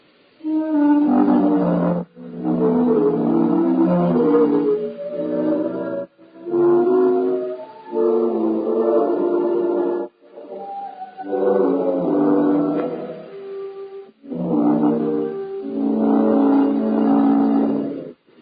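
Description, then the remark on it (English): A very old engine runs in four loud, rough surges separated by short pauses, each a low, rumbling drone with a wavering, growl-like pitch. No one speaks. “This is a very old engine.”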